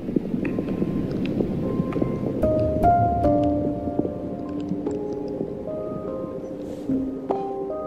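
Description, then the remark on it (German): Small white plastic beads rattle and patter continuously on loudspeakers pointing at the ceiling in an art installation, where earthworms moving in a terrarium above set the volume; a dense clatter with scattered sharp ticks over low droning electronic tones that shift in pitch. “Die Lautsprecher zeigen zur Decke und sind mit kleinen weißen Plastikkügelchen bedeckt.”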